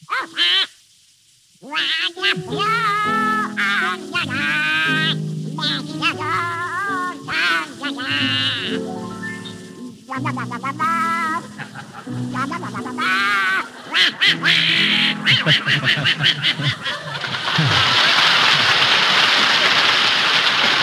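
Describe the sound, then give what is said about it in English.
Donald Duck's raspy, quacking voice sings a warbling tune for about fifteen seconds on a radio show, loud, over sustained accompaniment, then a burst of noisy clapping-like sound fills the end. “Donald Duck, you've denied being the worst singer in the annals of radio. All right, prove it. Sing, and it better be good.”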